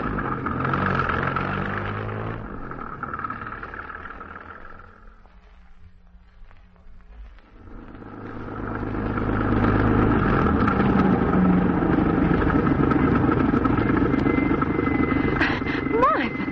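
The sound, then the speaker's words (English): A car engine drones along loudly, eases off into a quieter rumble midway, then revs up again into a heavy, steady roar as the car drives on, heading out to an auction. “We'll make it with Cliff driving.”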